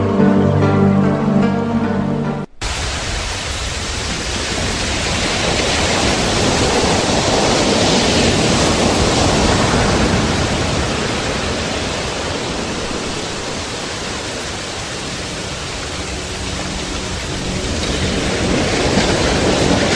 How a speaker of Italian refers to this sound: Dopo questa rinfrescante cascata d'acqua, eccoci qui pronti per continuare la nostra puntata di Prema Love, l'onda del cambiamento.